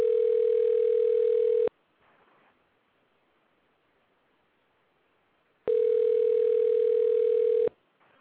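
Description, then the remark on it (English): Two long steady electronic ringback tones on an outgoing phone call, each about two seconds, separated by a four-second pause, heard through a phone line with faint hiss between rings. “phone is ringing.”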